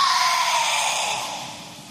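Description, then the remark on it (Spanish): A forceful martial-arts kiai shout from karateka Sandra Sánchez performing a kata in competition rings out, loud and breathy, then trails away in a hissing fade over a couple of seconds, with no talking around it. “El sonido que escuchan es, y el grito del ejercicio de Sandra Sánchez.”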